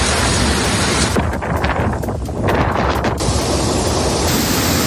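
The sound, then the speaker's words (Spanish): Loud, continuous roar of storm wind and heavy surf during a storm in Spain, a dense rushing wash that briefly dulls midway before surging back, with no voices. “Ha sido una jornada marcada por el temporal, un día complicado.”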